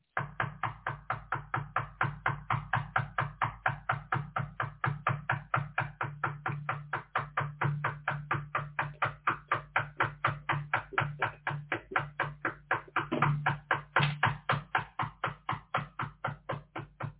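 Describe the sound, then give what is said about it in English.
A neighbour knocks on a door persistently, a fast, steady run of loud raps that keeps going without pause, with no voices heard. “Who is it?”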